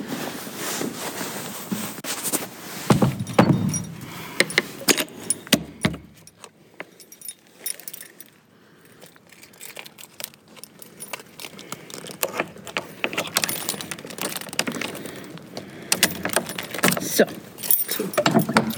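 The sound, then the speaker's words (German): Keys jingle and rattle repeatedly while the heavy door of the Grey Tower (Grauer Turm) swings and thuds shut with a couple of solid knocks, followed by more clinking of keys as it is locked. “Und so wie die Tür des Grauen Turms gerade ins Schloss gefallen ist, genau so beenden wir für heute auch unsere Folge Hör mal Nummer 2.”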